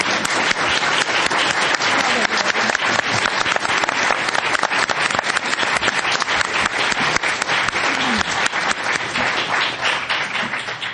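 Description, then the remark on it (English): Sustained audience applause for a panel at a meeting of the Commonwealth Club of California, a dense, steady wash of many hands clapping at full volume for the whole stretch, with no voices standing out above it. “I wish now to invite you, since I made the other comment, to give them all a huge round of applause.”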